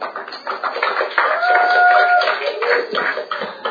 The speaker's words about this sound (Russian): Давайте его с теплыми аплодисментами.